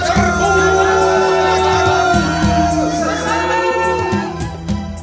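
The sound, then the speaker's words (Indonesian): A crowd of voices shouts and roars continuously, with rising and falling calls echoing from a distance over a dense, steady backdrop of sound. “Teriakan membahana yang terdengar dari jauh itulah yang telah menggugah kembali kesadaran Mira”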